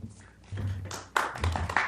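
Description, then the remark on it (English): An audience at a city council meeting breaks into scattered clapping after a public speaker finishes. It is first soft and uneven, then swells into a louder, denser burst of hand claps lasting under two seconds. “No clapping. If you want to demonstrate support, you can wave your hand like that.”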